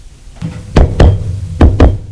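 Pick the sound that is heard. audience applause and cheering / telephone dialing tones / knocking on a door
knocking on a door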